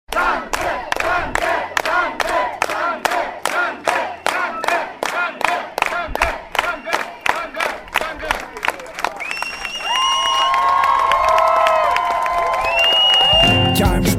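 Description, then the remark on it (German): An audience claps in rhythmic unison to thank a performer, then breaks into loud cheering, whistles and shouts that swell toward the end, a dense, energetic response. “hier kommt nochmal dein Danke von deinem Publikum.”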